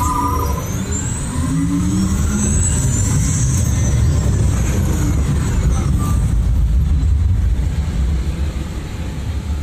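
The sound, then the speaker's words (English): A simulated car drives rough terrain in an off-road and extreme weather test sequence, its engine a loud, steady rumble with a rising whine at the start. The heavy grinding roar runs unbroken throughout, with no voices. “Commencing sim car off-road and extreme weather sequence.”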